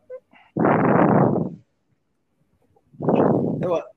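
Two loud, heavy breaths, each a rough, noisy rush of air lasting about a second, separated by a short silence, with no speech.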